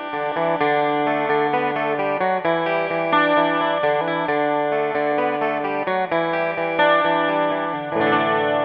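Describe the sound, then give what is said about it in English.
A jangly Rickenbacker 12-string electric guitar plays a bright, ringing riff of chiming, shimmering chords, with rich doubled harmonics and a steady rhythm, heard alone without any voices. “Here's Shelby playing that riff so you can hear the Rick in isolation.”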